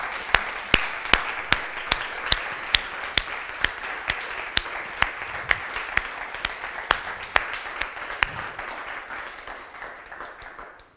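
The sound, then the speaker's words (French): A crowd applauds a person for their faith after a testimony, clapping steadily for several seconds, a dense wash of clapping with a few sharp, louder individual claps standing out, tapering slightly toward the end. “Et je vous profite, je ne sais pas si on le fait vraiment, si c'est l'occasion, mais de l'applaudir pour sa foi.”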